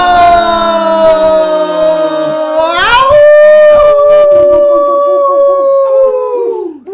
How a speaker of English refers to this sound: And welcome to the center of the valley. Where coyotes howl. Hey! Yes. And and as you can hear, the whole coyote pack is here.